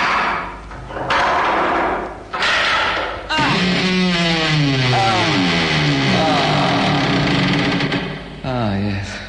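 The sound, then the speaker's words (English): An old cupboard door rattles and scrapes in a few noisy bursts as it is pulled open, followed by a long, wavering voiced sound that continues to the end. “But I have one final duty to perform here, if I can just get the door open. I better just check that the cupboard's nice and empty.”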